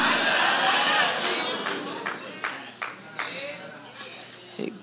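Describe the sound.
A few isolated, sharp hand claps ring out one at a time from an audience, sparse and uneven, over a steady bed of crowd murmur and voices.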